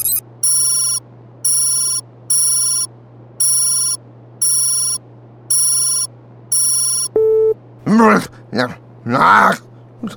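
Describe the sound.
A telephone rings in seven short, evenly spaced electronic bursts over a low steady hum during an outgoing call, then a brief click as it's answered and a voice starts speaking.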